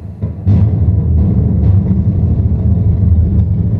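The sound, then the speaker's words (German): A loud, continuous deep rumble from underwater, grinding and rolling with dense low-frequency energy and brief sharper crackles, sustained for several seconds with no voices. “Das lauteste, was wir bisher hatten, das waren 2 Eisberge, die miteinander kollidiert sind.”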